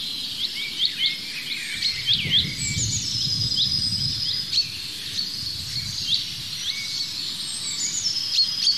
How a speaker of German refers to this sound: Dieses Huit, Huit, Huit, Huit, das fast wie Kontaktruf vom Zilzalt klingt, ist aber gepaart mit dem Pink am Ende. Es kann kein Zilzalt sein. Das ist der Buchfink, der Ruf, der bei uns eher wie Rüb, Rüb, viel rauer und rollender klingt.